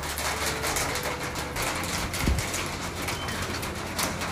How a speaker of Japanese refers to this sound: この屋根に当たる雨の音が響いているので、どれだけ雨が降っているかがお分かりいただけるかと思います。結構降っています。